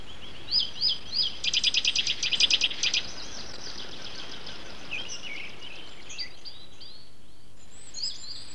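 A nuthatch gives a quick run of sharp, high whistled notes that speeds into a rapid trill, then a few fainter, scattered calls follow over quiet background hiss.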